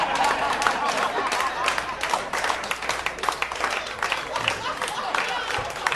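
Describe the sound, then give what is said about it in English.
A crowd applauds steadily for several seconds, the dense clapping sustained at an even level throughout, with murmuring audience noise mixed in. “So, for the non-South Asians in the audience, who perhaps didn't understand why there was applause, the British built a really extensive railway system throughout India before they left”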